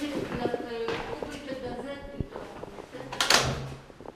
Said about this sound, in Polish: Dobrze, idziemy, zamkniemy drzwi.